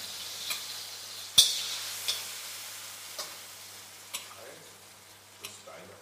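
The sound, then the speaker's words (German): A steady, bright sizzle of a hot pan with water hitting it, broken by sharp crackles and pops, the loudest near the start, then fading to a quieter hiss with occasional ticks. “Ah, hier, schaut her. Ein bisschen Wasser.”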